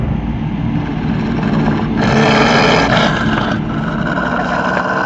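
A deep, muffled roar of the tiger Shere Khan from behind a rock rumbles steadily for several seconds, swelling louder and harsher in the middle before settling back into a low growl, with no voices present.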